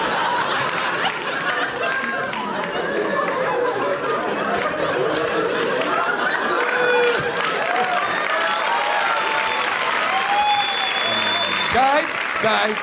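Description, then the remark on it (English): An audience applauds steadily for the whole stretch, a dense, even wash of clapping mixed with cheering and scattered chatter and laughter from the crowd. “Guys, you're right to applaud.”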